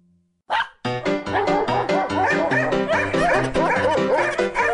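A dog barks loudly and rapidly in a continuous run of yips and whimpering whines that blend together for several seconds with no talking.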